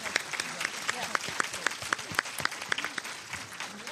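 An audience applauds a panel steadily, many hands clapping in a dense, even patter from start to finish without pause.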